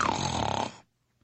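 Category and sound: human body sound, snoring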